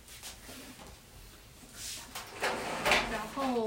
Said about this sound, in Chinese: 现在 我们移一下椅子。 你起来好了，我怕你等下坐不到坐哪里，到这边好了。